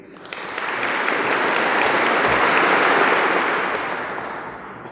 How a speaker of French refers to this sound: Je demande à ces lauréats de bien vouloir se lever et je vous remercie de les applaudir.